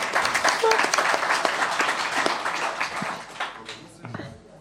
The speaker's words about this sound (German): Falls dieser jemand einen Beitrag dazu geleistet hat, Applaus an ihn. Sonst auch an das Freifunk-Projekt. Yay, Freifunk.